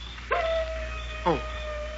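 wolf howling

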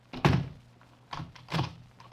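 door being shut

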